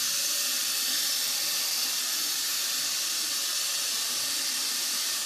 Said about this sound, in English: Just white noise. It's like turning on a TV station and there's no station there.